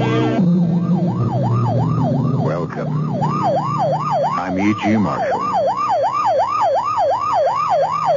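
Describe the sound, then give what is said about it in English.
A loud police car or ambulance siren on the way to or from an emergency wails in a fast, rising-and-falling cycle throughout, with a man briefly speaking over it partway through. “You know it's a police car or ambulance on the way to or from an emergency in which someone is badly hurt.”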